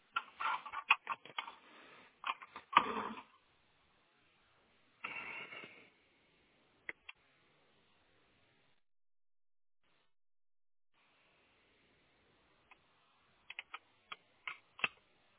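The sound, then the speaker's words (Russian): Handling noises: a cluster of rattling clicks and a louder snap early on, then a quiet pause and a few scattered sharp clicks, as a part taken out of a router that is still switched on is pushed back in until it clicks into place. “И ставить обратно до щелчка.”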